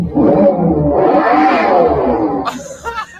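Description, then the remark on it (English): A loud, synthetic engine revving roar plays from car speakers, swelling and holding for about two seconds before breaking into short, high tonal chirps and whines at the end. “and let's have a listen to the noise that they've given it from the fake speakers.”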